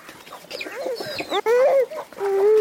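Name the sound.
chickens clucking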